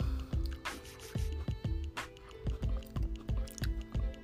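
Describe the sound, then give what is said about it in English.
Steady chewing of chips: soft, moist crunches and squishy mouth sounds repeating in a quick rhythm, about two or three bites per second, with no talking. “Or a soft crunch.”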